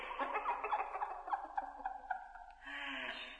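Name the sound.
bird squawking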